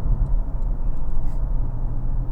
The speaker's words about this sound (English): Listen to that engine, eh? Just whips up there to 4,500 RPM, no problem.